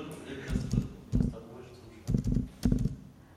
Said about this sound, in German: Ich muss schneller klicken wahrscheinlich.